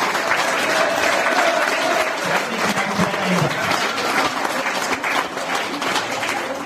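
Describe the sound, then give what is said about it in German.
Steady, loud applause from an audience, a dense crackle of many hands clapping that holds at an even level for several seconds, with faint voices mixed in. The applause is given in thanks to people named one by one. “Dein Applaus.”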